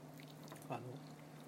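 Soft chewing of a tender Japanese dashimaki rolled omelette, a quiet moist squish peaking briefly midway over a low steady hum, with no talking.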